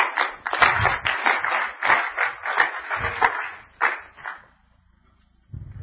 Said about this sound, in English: Let's clap our hands to God and praise Him.